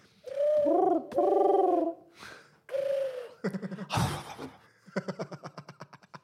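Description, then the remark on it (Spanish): People imitate pigeon cooing: a few loud, warbling hoots followed by bursts of rapid, fluttering trills, with short pauses between the calls. “Aprendan a hacer sonidos de paloma”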